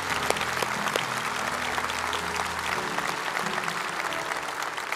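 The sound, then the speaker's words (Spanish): Sustained applause from an audience at a Christian worship service, applauding friends who stood up, a dense steady patter of many hands clapping at full volume for the whole stretch, with a low hum underneath that drops away midway. “Denles un buen aplauso a esos amigos, hermanos.”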